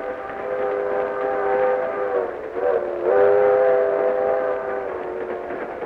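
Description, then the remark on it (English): A train sounds a long, steady horn that briefly dips and swells again, loud, layered over a low rumble of the train moving along its tracks, with no voices. “All the while on the train that carried me towards home, I kept chuckling to myself.”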